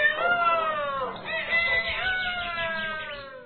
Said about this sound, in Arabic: وهكذا يا أصدقائنا ظل الديك المغرور يصيح ويصيح ويصيح حتى انزعج النسر كثيرا.